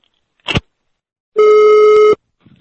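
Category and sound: signal or alarm, telephone ringing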